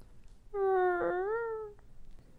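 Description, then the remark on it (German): A dog named Rex whimpers once in a single drawn-out, high-pitched whine lasting over a second, holding a fairly steady pitch that lifts slightly near the end, with no talking around it. “Rex lief winselnd zu ihm, doch als er in seinem Arm lag, wurde sein Atem immer langsamer.”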